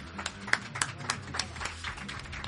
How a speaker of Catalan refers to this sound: Un fort aplaudiment per ell.